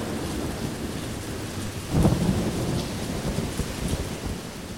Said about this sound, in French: Des gros nuages arrivent, poussés par le vent, un terrible orage se prépare.